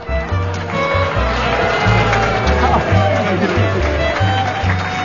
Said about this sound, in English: To all those who applauded, I want to express my thanks. To those who booed, I want to applaud your taste.